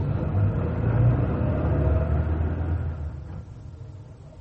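A car engine rumbles steadily with a low, droning tone, then eases off and quiets slightly as the vehicle keeps rolling. No one speaks.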